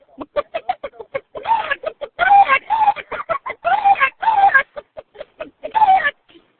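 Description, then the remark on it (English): Agitated hens cluck rapidly and loudly in a coop after a cat enters the cage, short sharp clucks bursting into longer squawking cries in an uneven, frantic rhythm, continuous for several seconds. “The kitty then enters the cage. The hens become very disturbed, thusly.”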